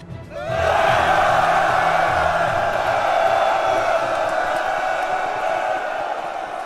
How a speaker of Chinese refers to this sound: 大家一起大声喊叫吧。